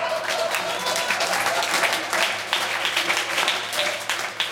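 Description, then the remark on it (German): A live audience at a live performance applauds steadily after a finely told story, many hands clapping in a dense, continuous patter that stays fairly loud and even throughout, with no voices standing out. “Denn hört einmal, wie ein Publikum so klingen kann nach einer fein erzählten Geschichte.”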